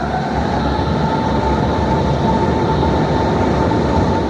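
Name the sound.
S-Bahn commuter train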